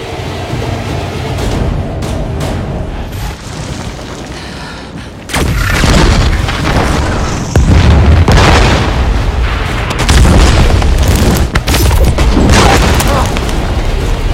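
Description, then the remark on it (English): Loud weapons fire from Vulcans and other non-humans taking aim from hillsides on a foggy, rocky blue planet: heavy booming blasts and crackling bursts over a constant low roar, growing denser and louder partway through, with no clear voices. “Vulcans and other non-humans take aim from hillsides as they scramble from the fire.”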